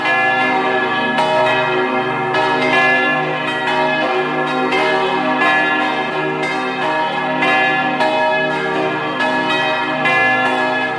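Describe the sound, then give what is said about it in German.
Several bells of the parish church of St. Sebastian in Fontanella, Vorarlberg, in the Great Walser Valley, ring together at 12 o'clock in a steady, overlapping peal, loud, with rich sustained tones and repeated strikes filling the whole stretch and no voices present. “Sie hören die Glocken der Kirche zum heiligen Sebastian in Fontanella in Vorarlberg.”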